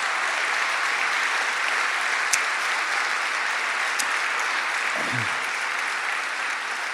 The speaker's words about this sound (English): I just want to thank all of our storytellers tonight. They were fantastic. Every one of them brought it, and they should get a big round of applause.